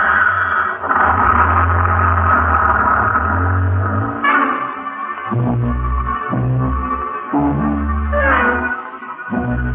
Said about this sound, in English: Honey and I stand there like a couple of outfielders watching one sail over the fence while Colonel Lucius Porteous drives away in Ackerman's dinky little sightseeing bus.